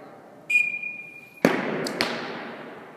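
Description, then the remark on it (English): A brief high whistling whoosh, then two sharp thwacks of arrows shot by men and women striking yellow, blue and red targets a half-second apart, each ringing out in a cavernous ice rink at the Glenwood Springs Community Center, Colorado; no one speaks. “11 men and women are shooting arrows at a row of yellow, blue, and red targets.”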